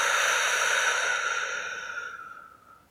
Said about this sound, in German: Wir atmen nochmal gemeinsam ein, die Luft kurz anhalten und wir atmen gemeinsam wieder aus.